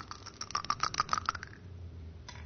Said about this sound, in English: Tim, your turn to throw the dice